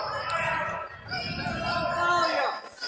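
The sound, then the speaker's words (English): A big basketball arena crowd at an Owls game roars and cheers steadily for about three seconds, with the Owls down by 8 and 4:19 to go. A dense wash of many voices swells slightly before easing off near the end. “Okay, the crowd has woke up now.”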